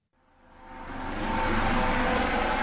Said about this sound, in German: Die Hubschrauber kreisen am Himmel.